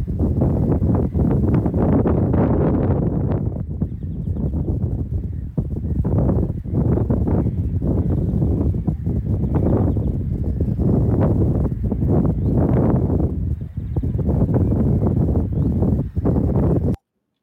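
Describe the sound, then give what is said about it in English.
Strong wind buffets the microphone throughout, a loud continuous low roar with rumbling gusts. Faint calls of a black-headed gull and a European greenfinch are barely audible beneath it. “We've got a black-headed gull and a greenfinch, European greenfinch, in this recording, plus also huge amounts of wind.”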